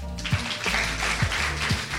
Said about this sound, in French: On va continuer, je vais maintenant vous demander d'applaudir très fort